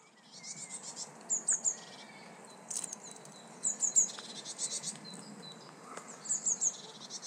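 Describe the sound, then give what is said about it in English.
Small birds, blue tits in England, give thin, high calls in quick bursts of three, repeating every few seconds against a soft outdoor hiss, with faint rustling and other chirps. “And that's some little blue tits.”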